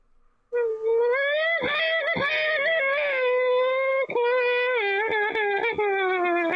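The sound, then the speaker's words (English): A voice imitates a racing car, holding a loud buzzing engine whine that climbs and dips in pitch for several seconds, broken by sharp revving clicks and brief gear-change stutters. “the things I like to do sometimes, it may sound weird, but I do actually like to do like sort of noises of racing cars, so this should be quite good.”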